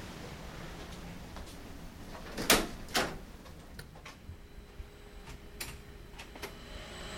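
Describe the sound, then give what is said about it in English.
Two sharp clunks about half a second apart as double doors to a supercomputer room in a seawater facility's mechanical area latch and swing, followed by a few lighter scattered clicks over a steady background hum. No one speaks. “our supercomputer, which is located just on the other side of these double doors.”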